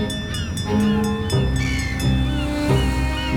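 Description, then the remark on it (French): Scallop fishing boats rumble into the harbour at Port-en-Bessin, their diesel engines layering a steady low drone with shifting tones over a constant wash of water and wind. “L'entrée des bateaux, des coquillards à Port-en-Bessin, c'est un spectacle.”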